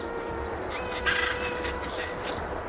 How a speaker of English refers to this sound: From over the top of the General Motors building, I watched a flock of black birds circling in the sky.